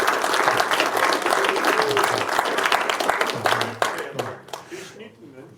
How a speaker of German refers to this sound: 17 Talks sind bereits geschnitten. Das hat auch einen Applaus verdient, dass man das nebenher alles noch schafft.